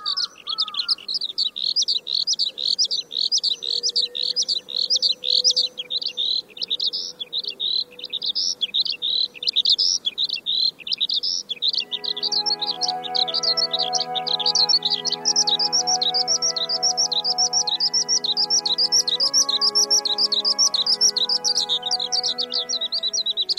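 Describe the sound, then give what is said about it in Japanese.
A Eurasian skylark sings over a wheat field in Mamada, Oyama City, Tochigi Prefecture, Japan, in the morning, pouring out a continuous, rapid stream of high, bubbling warbles and trills, loud. About halfway through, soft sustained musical tones rise beneath the song. “今朝は栃木県小山市間々田の麦畑からヒバリの声をお届けしました。”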